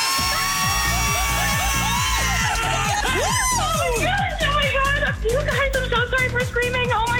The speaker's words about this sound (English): You guys, I'm so sorry for screaming. Oh, my God. No, scream.